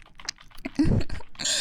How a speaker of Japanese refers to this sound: でもキーボードを叩く手は止まってないね。